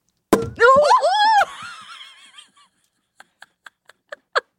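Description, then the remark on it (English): A champagne bottle's cork pops sharply, followed by a startled, rising vocal squeal and a dull thunk as the cork ricochets off the ceiling, then a run of quick light ticks that come faster and louder. “I hope the mic picked up the sound of it ricocheting off your ceiling.”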